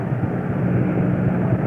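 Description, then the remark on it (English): A packed ballpark crowd roars after Bob Gibson throws strike two to Boyer in a game against New York, a dense, steady wash of cheering noise that holds at an even, loud level throughout, with no single voices standing out. “Every strike, you can hear the roar.”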